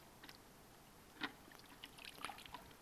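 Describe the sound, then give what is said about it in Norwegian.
Quiet sloshing and faint bubbly trickles as a dry sponge is dipped into water and fills with it, with one slightly louder splash near the middle and scattered small drips afterward; no voices. “Den er helt ubrukelig, denne svampen. Men hvis jeg dypper den ned i vann, så fyller den seg med vann.”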